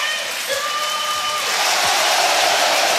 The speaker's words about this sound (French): Et puis du côté Lorientais, le dernier changement dans un instant, ça sera l'entrée en jeu de Matsima à la passe de Enzo Lefebvre. Vous allez entendre l'ovation évidemment pour Enzo Lefebvre.